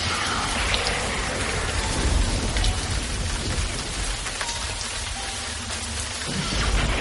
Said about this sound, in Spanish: está completamente empapada por la lluvia que, en este preciso momento, cae de manera torrencial.